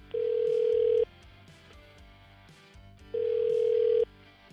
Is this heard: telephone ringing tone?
yes